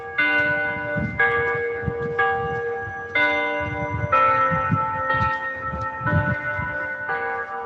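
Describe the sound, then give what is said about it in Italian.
Noon bell chimes played through an amplifier set atop a white tower block in Grattosoglio rather than rung from a bell tower: a steady sequence of strikes roughly once a second, each ringing tone overlapping the last, with a slightly flat, amplified quality over low background rumble. “Al Grattosoglio, all'improvviso, almeno per noi che siamo di passaggio, si sentono i rintocchi che però non escono dal campanile ma da un amplificatore.”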